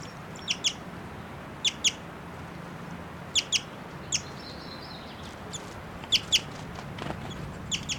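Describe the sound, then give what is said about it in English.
A female bird in flight gives short, high chittering notes in quick pairs, repeated every second or so, with a brief whistled note mixed in, over a low outdoor rumble. “And that's her flying and chittering here. That's her giving these whistling notes.”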